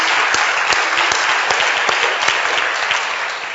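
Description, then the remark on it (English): An audience claps together on Palm Sunday in loud, continuous applause, a dense wash of many hands with a few sharper individual claps popping out, steady throughout and fading slightly at the end. “Oh, clap your palms together.”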